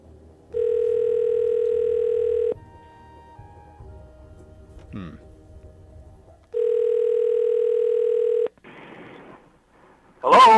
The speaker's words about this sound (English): I'm going to give Mike a quick call here on the blower. See if he's available out there in Wisconsin.